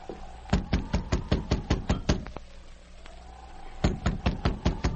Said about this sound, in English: The sergeant repeated his knock. Finally, a sliver of light showed as Duke Duval opened the door cautiously.